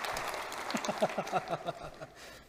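A brief round of clapping in a quick, steady rhythm, about a dozen sharp claps that peak mid-way and then taper off, over a low background hum.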